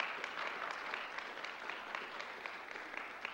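A crowd applauds the young families present in the morning, a steady, dense wash of many hands clapping at an even level for a few seconds, with no voices standing out.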